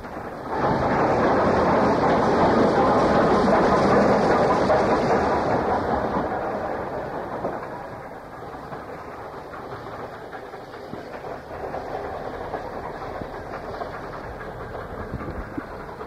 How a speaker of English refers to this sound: The following night, at 6:28 p.m. on the 23rd November 1966, Class B1460, number 61278, passes through Cooper Station travelling light engine, pushing a single brake van from Dundee to Thornton.